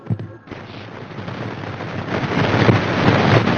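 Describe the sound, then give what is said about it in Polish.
Video game grenade explosions as several players throw grenades at once on a game server: a sharp blast opens, then a dense roar of rumbling, crackling detonations swells steadily louder over several seconds, with no voices. “Ze fajerwerkami będę miał dwa screeny, jak są granaty w powietrzu, jak już granaty wybuchły.”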